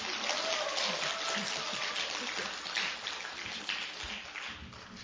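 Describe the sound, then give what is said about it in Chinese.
Audience applause as a woman is called up: many hands clapping in a dense, steady crackle that holds at an even level for about five seconds without a break. Faint voices may sit underneath. “给他掌声响一点。”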